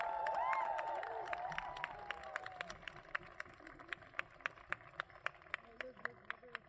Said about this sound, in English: Now, how about another round of applause for Moti Sikwa and the amazing hoop dance?